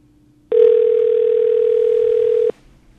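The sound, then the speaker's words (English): A loud telephone dial tone, heard while redialing a number on the BAI phone system, holds one steady pitch for about two seconds, starting and stopping abruptly, with only a faint low hum before and after. “I'm going to try that number one more time.”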